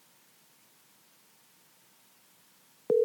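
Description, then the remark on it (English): Faint steady hiss for a few seconds, then a loud, steady electronic ringing tone of an outgoing phone call starts abruptly right at the end, clear, with no one talking. “Speaking of short, we're going to get him on the phone right now. I'm going to call him.”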